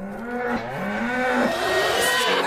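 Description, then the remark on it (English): A calf moos in one long, drawn-out bleating call that wavers and rises slightly in pitch, loud and continuous with a rough, nasal tone and no talking over it. “That's a calf.”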